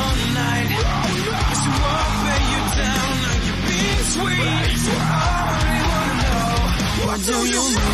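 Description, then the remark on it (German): Heavy, dense metalcore plays loud and unbroken, with distorted guitars, pounding drums and harsh screamed vocals tearing over the top for the whole stretch. “Ja, vor allen Dingen dieses Gebrüll macht mich fertig.”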